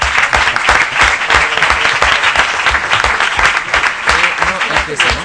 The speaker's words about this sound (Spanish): Luego, agradecer a nuestra Fila Cero también su presencia y sus preguntas. Aplauso grande para la Fila Cero, por favor, por favor.